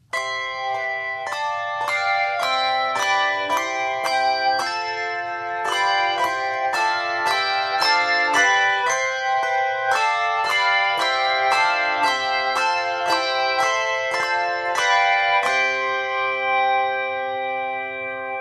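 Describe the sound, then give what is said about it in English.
A set of handbells demonstrates the basic ring and damp: they ring out in a steady, tuneful sequence of overlapping strikes, then the ringing is damped and fades away into quiet at the end. “So we can demonstrate the basic ring and damp for you, if you like.”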